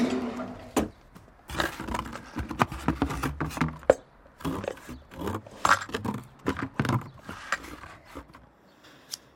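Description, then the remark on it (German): Scissors snip and slice through packing tape sealing a gap under cardboard: a busy run of crisp, irregular cuts, clicks and tape crackles, with short pauses and no voices. “Unter der Pappe, da ist so ein Zwischenraum. Alles dicht mit Klebeband. Ich hol die Schere.”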